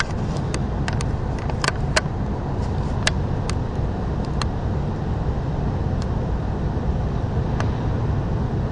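A busy New York City street soundscape: a dense, steady roar of traffic noise, heavy in the low end, with scattered sharp clicks and knocks cutting through and an occasional siren. No one speaks.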